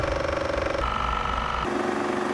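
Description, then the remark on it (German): A loud, steady mechanical whirring and rattling from a running film camera, its motor hum holding one pitch, jumping higher, then dropping lower, with no voices. “Wir werden hier jetzt mal einen kurzen Clip einblenden, wie laut diese Kamera ist.”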